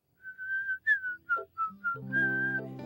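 A person whistles a short melody, clear, with several sustained and bouncing notes before a brief harmonic tone joins near the end.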